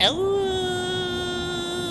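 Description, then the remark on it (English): A grasshopper mouse, also called the werewolf mouse, lets out a single steady, whistle-like howl to mark its territory, holding one even pitch with a bright, buzzy edge for nearly two seconds after a sharp onset, with no talking. “So he can howl to mark his territory.”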